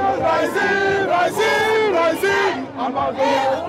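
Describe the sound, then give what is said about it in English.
A protest crowd waving flags and shaking placards shouts and chants together, many voices loud and sustained, their pitch rising and falling in repeated surges with only a brief dip before swelling again. “Of people shouting, waving flags, and shaking placards.”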